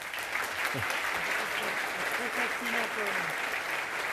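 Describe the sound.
Steady, dense applause from an audience for a volunteer called up on stage during a talk, filling the whole stretch at an even level, with a few voices calling out faintly beneath the clapping.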